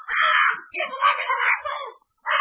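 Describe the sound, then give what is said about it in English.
A parrot perched on a whale oil cask aboard a schooner squawks loudly in harsh, raspy bursts: one long screech, a longer wavering one, then a third cut off after a short pause, with no voices. “Hey, quiet that bird or take a nap.”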